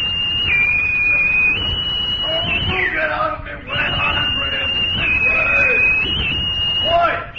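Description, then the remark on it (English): A bosun's pipe shrills a long, steady high note that breaks into warbling rises and falls, then holds again, repeating the call over a low murmur of background noise, piping the top brass aboard. “Pipe the top brass aboard, Chief.”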